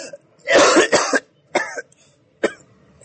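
A man with a dry throat coughs in a harsh, wet burst lasting about half a second, then gives two shorter, separate coughs. The sound is loud, with no talking.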